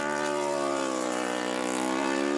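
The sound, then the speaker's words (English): A racing motorcycle engine screams at high revs as the racer passes the Bungalow section during a road race, loud, its buzzing, harmonic-rich note holding steady with a slight rise near the end, with no voices. “Oh, listen to that engine note.”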